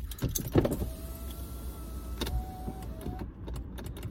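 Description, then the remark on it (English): A car's power window motor whines steadily in two runs, with a few clunks and knocks at the start and a soft click as it stops, under low engine rumble. “Why is my other window not going down?”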